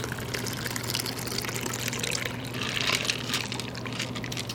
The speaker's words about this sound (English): Shake it up. Strain it right into your cocktail glass.